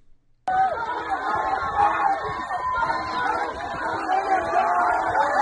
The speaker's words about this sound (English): Listen to the cheering.